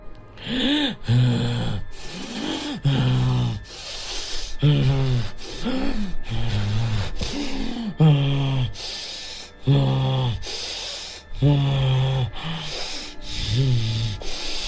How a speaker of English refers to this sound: Her skinny arms wrapped around her knees, and she was rocking back and forth, breathing loudly.